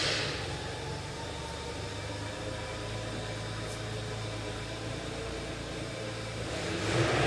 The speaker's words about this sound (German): Ah, ich glaube, Harry fährt schon mal den Wagen vor.